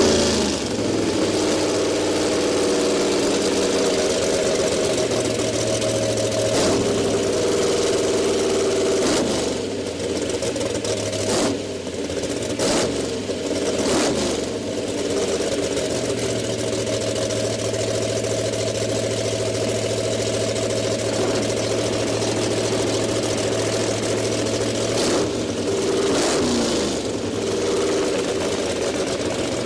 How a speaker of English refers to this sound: This is a V8 being revved here. Okay. V8 of anything.